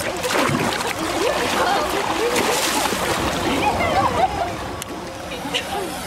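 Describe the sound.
A heavy mermaid tail flicked high into the air in a pool splashes and churns water in a steady, busy wash of sloshing and splatter that holds fairly loud throughout, with indistinct voices faintly mixed underneath.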